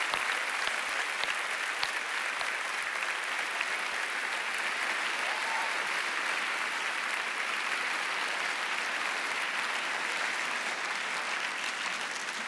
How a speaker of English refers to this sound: And we need to stop and thank the Lord for what he's done for us on this campus. So would you join me in giving some applause to the Lord for what he's done?